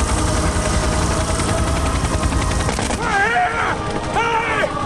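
A man fires his rifle into the air on a flat plain as a helicopter departs. The shots crack out in quick succession over a loud, steady rumble, followed by a voice shouting in rising and falling tones.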